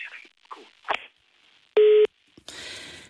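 A loud, steady electronic telephone tone sounds once, briefly, after faint scattered line noises, as a listener's call-in phone connection to a radio programme drops, and then gives way to a wash of hissy static.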